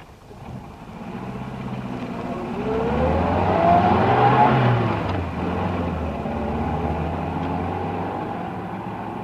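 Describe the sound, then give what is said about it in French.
A car engine starts low, then revs up with a rising whine and pulls away, settling into a steady, fairly loud driving hum. No one speaks. “Allez, montez dans ma voiture, allez!”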